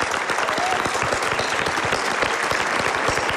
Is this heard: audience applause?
yes